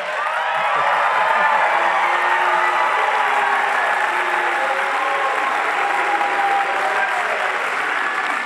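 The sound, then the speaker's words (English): A large crowd lets out long, drawn-out booing, a loud sustained roar of many voices over scattered clapping that fills the whole stretch without a break. “Why are you booing him?”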